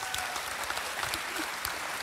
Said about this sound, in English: They haven't clapped that loud for me this whole time. And you just come up and that's incredible.